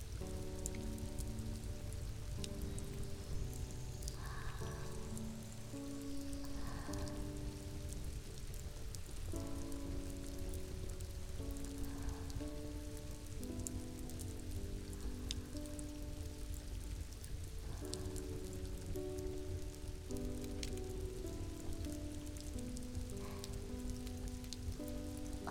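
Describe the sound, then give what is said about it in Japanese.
Steady rain falls continuously throughout, a dense, even patter on a surface, with a soft, slow melodic tune playing over it and no talking. “雨の音が今日も心地いいですね。”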